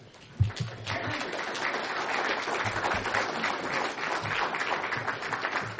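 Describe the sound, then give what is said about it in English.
An audience applauds steadily for several seconds, a dense, even wash of clapping that starts abruptly after a brief pause and holds at a fairly loud level throughout. “And so if you want to give me a warm round of applause, you're welcome to.”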